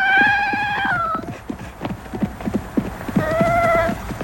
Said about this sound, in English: Here's Little Deuce whimpering. I could swear no bear on earth sounds that appealingly human and baby-like.